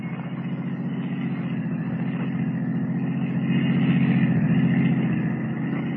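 A taxi cab engine runs steadily with a low, rumbling drone, revving slightly louder partway through as it pulls away following a blue roadster, then settling back. No voices, just the continuous motor.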